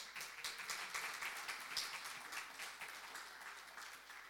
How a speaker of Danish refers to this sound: Velkommen. Skal vi ikke lige give ham en klap?